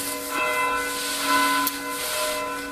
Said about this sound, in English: How much longer does the bell go for?